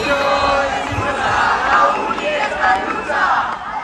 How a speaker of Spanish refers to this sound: Así gritaban cientos de personas que se han manifestado esta tarde frente a la Consejería de Educación de la Comunidad de Madrid